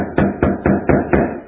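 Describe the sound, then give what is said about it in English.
Five firm knocks on a door in a quick, steady rhythm, fairly loud, with no voices around them. “You may find some night he'll knock on your door.”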